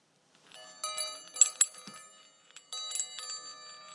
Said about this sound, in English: That's a... I don't know what it's made of. It's some kind of metal. It's a chiming heart. I bought it in Devon years ago.